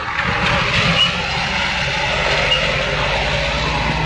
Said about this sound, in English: I wonder, what's the decibel level of an infinite number of trucks driving by an infinite number of locations like this one?